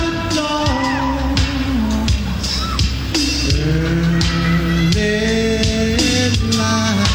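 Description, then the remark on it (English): A large stadium crowd roars and cheers continuously while sustained, tuneful singing of the US national anthem carries over the din, a loud, dense wash of voices with scattered shouts and whoops throughout. “Listen to the crowd.”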